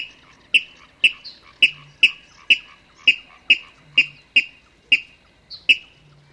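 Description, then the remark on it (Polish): Water rail contact calls: a steady series of about eleven sharp, single-syllable notes, evenly spaced roughly half a second apart, clear, with no talking. “Jeśli natomiast dwa ptaki tworzące parę znajdują się daleko od siebie, nawołują się pojedynczymi, ostrymi sylabami głosu kontaktowego.”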